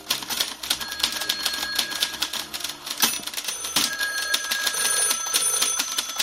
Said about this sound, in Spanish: Bueno, esto podría ser una redacción de noticias. Hombre, eso suena más a máquina de escribir. Hoy día, las cosas como son, pues ya esto no lo utilizamos. Utilizamos ordenadores.